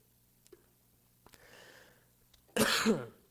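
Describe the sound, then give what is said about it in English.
A single sharp, loud cough bursts out near the end, preceded by a soft breathy inhale and a few faint clicks amid quiet. Nobody speaks. “I might need a cough drop too.”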